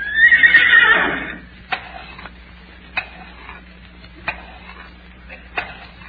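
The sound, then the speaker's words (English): A horse named Borky, presented as an educated horse and asked what two and two is, gives a loud whinny, then stamps its hoof four times at slow, even intervals over a faint steady background hum. “Yes, sir, that's really an educated horse.”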